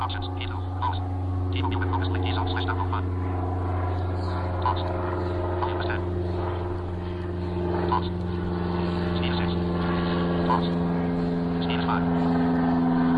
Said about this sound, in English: Wait till this airplane gets on. I live close to a little private airfield out here, so that can get kind of annoying.